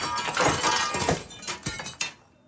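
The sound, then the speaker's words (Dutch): A window pane of a neighbourhood clubhouse is smashed by something thrown, with a loud, bright crash, followed by a second pane and further sharp impacts and scattered tinkling of falling glass, tailing off into quiet after about two seconds. No voices. “En toen wordt er ineens een ruit ingegooid. En daarna nog één.”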